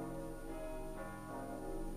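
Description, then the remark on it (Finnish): Church bells ring continuously on Christmas Day, their overlapping metallic tones blending into a steady, resonant wash that fills the air without pause. “Kirkon kellot.”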